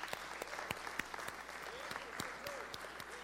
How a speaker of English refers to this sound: 10 people. Praise the Lord. Let's clap it up for that.